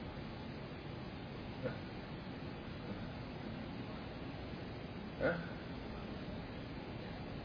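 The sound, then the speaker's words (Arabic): A steady, continuous whoosh of an air conditioner running in a room during a lesson, constant and fairly loud, with two brief faint knocks breaking through partway. “يطفي التكييف هذا، لا عاد يشغلوه اولا بالدرس، يعني اسمع يا اخوان، اصبر خليه يطفي التكييف، ما اسمعك.”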